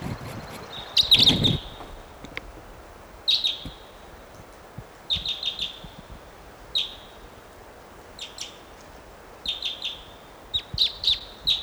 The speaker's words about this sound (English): What a wild bird.